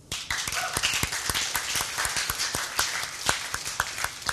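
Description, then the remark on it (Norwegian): A church audience applauds the more than 200 people engaged in the church's services, many hands clapping in a dense, irregular patter of sharp claps that stays at an even, fairly loud level throughout, with no voices. “Vært en applaus?”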